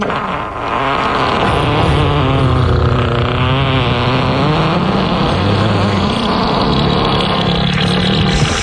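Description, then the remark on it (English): A loud, unbroken run of fart sound effects: low, buzzy, sputtering tones whose pitch wobbles and slides up and down for several seconds, with no talking. “How about some farts”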